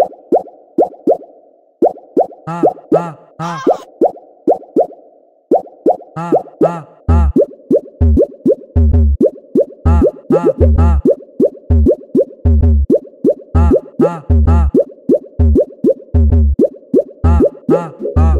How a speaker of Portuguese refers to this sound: Olha o barulho da água, tiplef, tiplof, tiplof, tiplof, tiplof, tiplof, tiplof, tiplof, debaixo do chuveiro, empurrando muito forte.